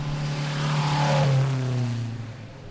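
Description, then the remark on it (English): An antique car engine revs hard during a hill climb competition in Wellesley on a sunny day, its droning pitch climbing and then sliding lower as it strains uphill, loud and steady with no voices. “On that sunny, albeit somewhat noisy day at the top of that hill in Wellesley, it seemed somehow sufficient.”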